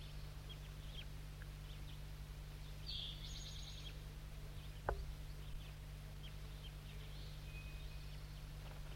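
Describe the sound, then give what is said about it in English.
Faint, scattered juvenile crossbill calls: short high chips and chitters, a slightly clearer burst near the start, over a steady low hum with no talking. “Mostly juvenile calls now.”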